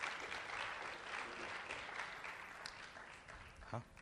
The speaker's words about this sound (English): Would you all please give him a round of applause? Welcome him.